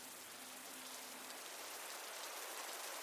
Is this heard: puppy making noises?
no